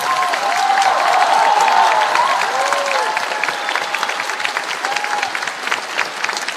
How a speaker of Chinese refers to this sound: 由近百名演奏家和三名指挥家组成的阵容强大的神韵交响乐团第一次在卡内基音乐厅亮相。在预定的17首曲目完成之后，场内掌声雷动。